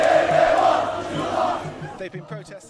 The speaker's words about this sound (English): The crowd was chanting anti-government slogans and screaming, "This is just the beginning, the fight is continuing."